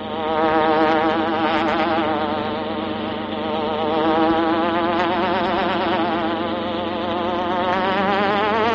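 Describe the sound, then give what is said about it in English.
A loud, continuous buzzing hornet sound effect for The Green Hornet drones for about nine seconds, its pitch wavering up and down in slow swoops, rich and raspy, with no voices over it. “The Green Hornet strikes again.”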